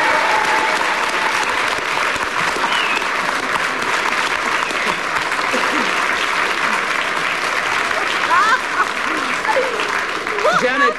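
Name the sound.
spontaneous audience applause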